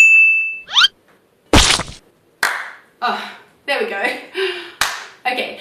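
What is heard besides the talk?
hands clapping together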